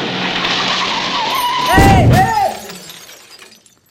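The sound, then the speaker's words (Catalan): A speeding car roars head-on toward a man at full speed as its tires screech in a wavering skid, then slams into him with a loud, crunching impact and shattering debris, and the noise quickly fades to quiet. “en Hermann veu com un cotxe li ve de cara a tota velocitat”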